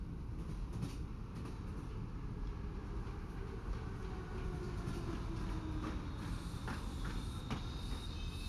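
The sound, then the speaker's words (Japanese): A train rumbles steadily along the rails, a dense low-frequency roar with faint rhythmic clatter and occasional metallic squeals, as if heard from inside a carriage while it runs and begins to slow, arriving at a station stop. “それではもう間もなく停車駅に到着いたします。”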